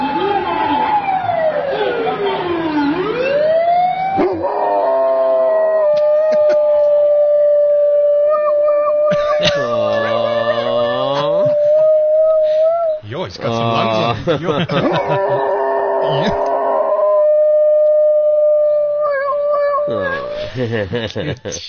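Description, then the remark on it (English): A dog howls along with an ambulance siren, imitating it, its long, wavering, rising and falling howls layered over the steady wailing tone. Both sound loud throughout. “He loves ambulances. So when you play an ambulance, he imitates.”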